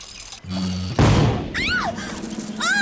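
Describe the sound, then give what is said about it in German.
A sudden loud boom from a small wind-up toy ship cannon, wound with a key, bursts out about a second in, followed by cartoonish whistling sweeps that rise and fall, with a low hum beforehand. “Da entdeckt Rasmus seine Schiffskanone und seine Schokoladenrumkugeln.”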